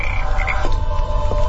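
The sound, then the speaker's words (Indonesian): A dense chorus of frogs croaking loudly from a small garden pond at a hotel at night, a steady droning trill with a couple of sharper croaks breaking through, set against a low background rumble. “Suara katak menggema di keningan malam itu.”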